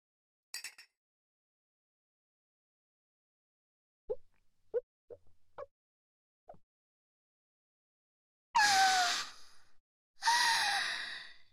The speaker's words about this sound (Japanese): 久しぶりに飲みますが、やっぱりビールは美味しいですね。